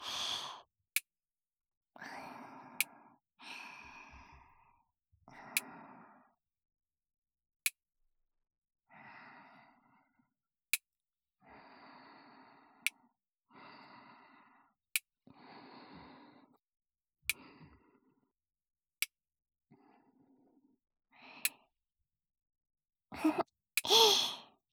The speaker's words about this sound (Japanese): 爪を切ってあげるなんて。